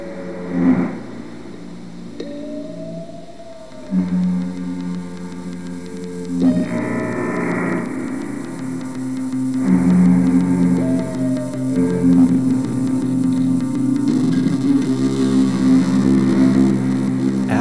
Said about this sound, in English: It's not that bad. What is that? Creepy foghorn and some other creepy noise? What'd you do? Oh, you looped them.